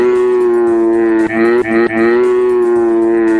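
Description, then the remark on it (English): A played sound clip of a cow mooing loudly in one long, droning bellow that briefly wavers and stutters midway before holding steady to the end, with no other sounds or voices. “That is a really horrible sound clip of a cow.”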